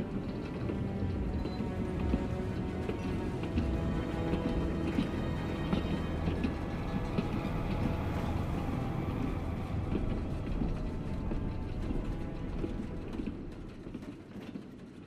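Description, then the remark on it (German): A steady, rumbling rattle of a train setting off again and rolling along the tracks away from Poland, with rhythmic clatter and low mechanical drone throughout, easing slightly toward the end with no voices. “Der Zug setzte sich wieder in Bewegung.”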